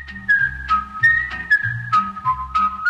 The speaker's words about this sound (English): That's … himself doing the whistling.